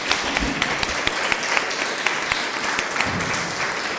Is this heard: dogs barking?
no